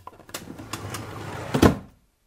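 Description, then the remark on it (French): Mother's drawer, holding felt-tip pens of every colour, slides open with a low scraping rumble and a few light knocks, ending in a louder thump as it stops, then silence. Fairly quiet, with no voices. “Dans le tiroir de maman, il y a des feutres de toutes les couleurs.”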